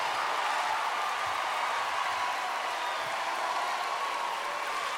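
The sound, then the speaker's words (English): An audience on a Wednesday night claps continuously, a dense, steady wash of many hands at a fairly even volume throughout, with a faint murmur of crowd noise underneath and no clear voices. “You can clap at home too, you can be loud, whatever you wanna do.”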